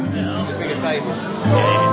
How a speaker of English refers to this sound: We got a crowd.